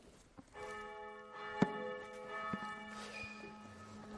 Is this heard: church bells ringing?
yes